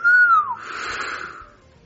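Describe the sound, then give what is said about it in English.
A person whistles one short, clear note that holds steady and then slides downward, trailing off into a breathy, airy hiss. No one speaks. “Okay, anything that'll make him whistle.”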